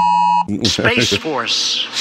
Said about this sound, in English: Oh, wait a minute. My phone's starting to vibrate. What's happening here? I don't know what's happening here.